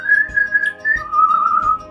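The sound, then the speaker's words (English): A loud human whistle imitating a bird call: a long, steady high note that slides down into a second sustained, slightly lower note, with no talking. “He whistles in a very impressive manner that your dungeon master is not able to imitate. imagine amazing, very loud bird whistle, I guess.”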